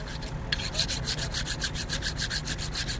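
A small curved knife, to be used for cutting Cabernet grapes by hand during the harvest, is sharpened with rapid, evenly paced strokes, each a bright, hissing scrape repeating several times a second over a low steady background hum.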